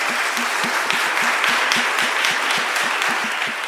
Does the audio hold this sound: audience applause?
yes